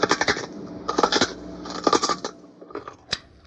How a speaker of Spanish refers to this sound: deja de comerte las zanahorias, por favor, oye.